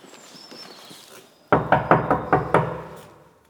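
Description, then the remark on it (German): Police investigators knock six firm times on an apartment door before a house search, landing in a quick, steady, loud rhythm after a second and a half of quiet room tone, with a faint murmur of voices in the background. “Die Polizei, machen Sie mal bitte die Tür auf.”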